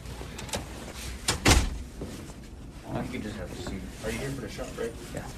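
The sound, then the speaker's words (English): A door marked for COVID vaccines at Bethel Hospital opens with a sharp clunk and a brief rush of movement, followed by muffled voices and indistinct chatter of people waiting for their vaccine doses. “Coming up to a door that says COVID vaccine here.”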